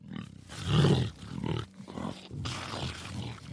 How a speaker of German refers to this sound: Welche Tiere gibt es denn da? Zum Beispiel eine große Raubkatze, den Jaguar.